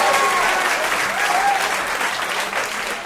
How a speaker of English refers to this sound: Give it up for Vaseline Man. Round of applause for Vaseline Man.